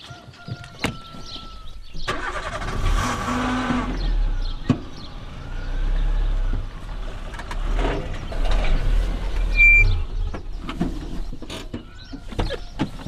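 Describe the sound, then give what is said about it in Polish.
A car drives steadily on the way to Dębogóra, its low engine and road rumble filling the cabin, with occasional clicks, rattles and a passing whoosh. No one speaks. “To może pojedźmy tam, tak, dobrze? Tak. I tam opowiemy, jak doszło do namalowania tego przystanku. To zapraszam do samochodu.”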